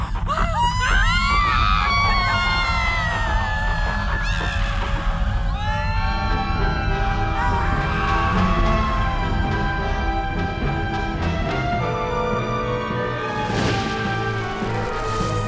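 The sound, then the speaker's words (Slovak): A deep, continuous earthquake rumble fills the whole stretch while a crowd screams and wails in panic, the shrill cries loudest at the start and thinning into a dense, sustained roar. “Čo je to? To je To je zemetrasenie.”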